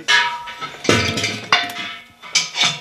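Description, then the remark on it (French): Metal bells clank and ring as a person tries them out, with several bright strikes whose long, shimmering tones overlap and ring out between jostling knocks. “J'essaie les cloches, vous essayez le micro.”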